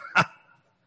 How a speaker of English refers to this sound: And woof!